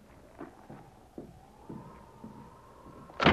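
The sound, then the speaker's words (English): A drawn-out creak rises slowly over a few soft knocks and footfalls, then a sudden loud bang as a sergeant throws open the door of a cabin. “The sergeant threw open the door of the cabin.”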